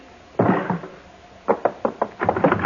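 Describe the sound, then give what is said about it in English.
A single loud gunshot bang from a gun a woman fires at a man, with a short ringing tail, followed after a pause by a rapid, uneven series of sharp knocking thuds. No one speaks. “She shot him.”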